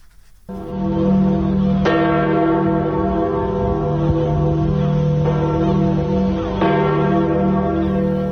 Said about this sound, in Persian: این مراسم ساعت 10 بامداد به وقت محلی با به صدا در آمدن ناقوس کلیسای سنت پیتر آغاز شد.